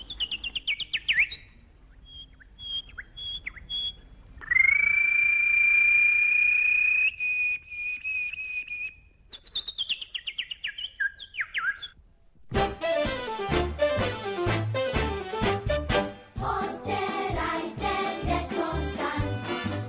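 High, twittering bird chirps, played after the 7 o'clock news, come in quick bursts, with a long, steady whistled note and a run of falling tweets, before a busy stretch of music takes over for the final seconds.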